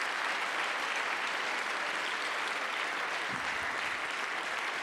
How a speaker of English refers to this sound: Let's clap our hands. If you're glad for it, let's lift up a voice.